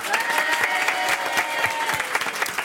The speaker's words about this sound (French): Applaudissements pour Charles Berling.